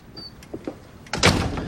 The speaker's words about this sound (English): leaves the kitchen and goes out of the front door.